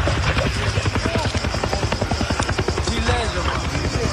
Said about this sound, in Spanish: Este era el momento en el que se producía una colisión entre estos dos helicópteros cuando trabajaban en las labores de extinción de los incendios forestales que llevan semanas sacudiendo el perímetro de la ciudad de Atenas.